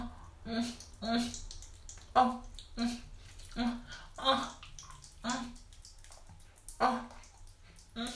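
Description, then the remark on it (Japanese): Wet, squelching sounds from touching a soaking-wet clitoris repeat in a steady rhythm, roughly two per second, over a faint low hum. “聞こえますか。私も加えてるだけで、こんなびしょびしょ。”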